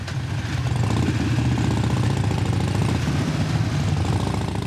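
vehicle, group of motorcycles riding

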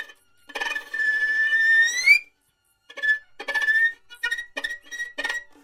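insect, cricket chirping

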